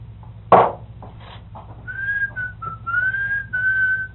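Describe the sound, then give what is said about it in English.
A person whistles a clear, steady tune of sustained and gliding notes, answering a bird, after a brief sharp knock, heard fairly loud over a low hum, with no talking. “Me over yonder whistling, and one over yonder, and I've answered the mean one.”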